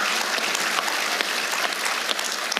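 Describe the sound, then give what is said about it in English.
An audience claps steadily, a dense wash of many hands with no pauses, holding an even, moderate loudness throughout with no voices breaking through. “Yeah, we can clap.”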